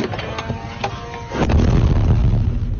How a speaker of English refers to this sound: For almost 3 years, many Ukrainians have been waking up to this. The sound of missiles, explosions, drones.